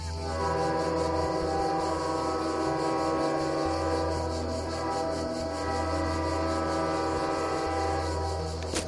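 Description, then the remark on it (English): A southbound freight train's horn blares from a distance in one long, steady, sustained chord for about nine seconds, holding an even loudness throughout with no voices present. “A few minutes later, when the distant call of the southbound freighter cut through the hissing cicadas”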